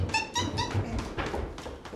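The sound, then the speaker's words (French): A dog whimpers in three short, high-pitched whines in quick succession, followed by a stretch of scuffling, shuffling noise. No one speaks. “Dégage le chien.”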